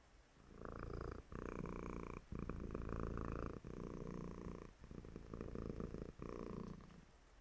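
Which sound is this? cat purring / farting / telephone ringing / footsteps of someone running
cat purring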